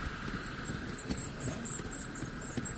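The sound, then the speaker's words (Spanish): Model trains of all eras run on a large railway layout, giving a steady, even whirring hum with a faint higher whine and scattered light clicks and rattles from the track. No one speaks. “Los trenes circulando por la gran maqueta ferroviaria.”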